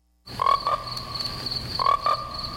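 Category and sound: animal, frogs croaking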